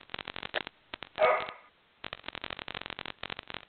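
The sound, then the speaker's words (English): A male dog barks at other dogs in the neighborhood in quick, sharp bursts, lets out one louder, drawn-out bark partway through, falls silent briefly, then resumes its rapid barking. No one speaks. “My dog has decided he's going to talk to the other dogs in the neighborhood.”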